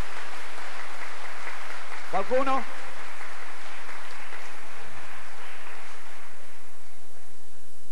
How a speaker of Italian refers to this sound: Un applauso. Auguri.